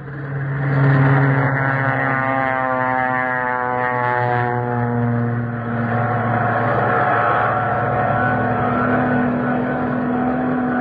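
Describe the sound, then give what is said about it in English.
A loud, steady roar of propeller warplanes, torpedo planes, bombers and fighters, taking off from the aircraft carrier Hornet, the droning pitch slowly rising as they climb, continuous throughout with no voices. “Yeah, look at all our planes, torpedoes, bombers, fighters. All of them going up.”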